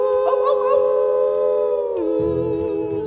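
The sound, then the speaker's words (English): Voices let out a long, sustained howl at the moon imitating a wolf or dog as part of a cowboy song, holding one steady pitch loudly before sliding down at the end, with a low rumble underneath. “We're gonna hoot and holler and howl at the moon. Ow, ow, ow.”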